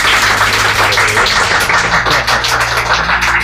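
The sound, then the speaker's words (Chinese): A crowd applauds steadily, many hands clapping in a dense, continuous patter that holds at a fairly loud, even level throughout, with a faint low hum underneath and no one talking. “好，我哋鼓掌，多谢神。”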